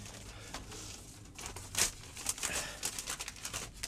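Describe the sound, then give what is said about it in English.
Papers are crumpled and pushed into a tin wastepaper basket, a run of dry crinkling and rustling with one sharper burst, followed by quicker scattered crackles. “Pull that tin waste paper basket to her. I expect you're right. Of course I'm right. Here, shove them in.”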